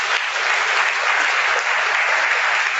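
Steady, dense applause from an audience for a local Namibian fashion designer, a loud continuous patter of many hands clapping at once with no voices over it, holding an even level throughout.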